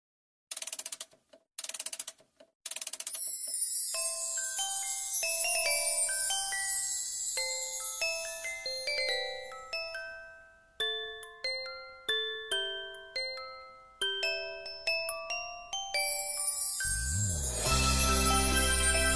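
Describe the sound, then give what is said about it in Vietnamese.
A song's instrumental intro: bright, tinkling bell-like notes plucked in quick melodic runs with brief pauses, building to a fuller swell with a deep bass at the end. No one speaks. “Và đây cũng là một trong những bài hát đã đưa tên tuổi của chàng trai trẻ này gắn liền với tuổi học trò.”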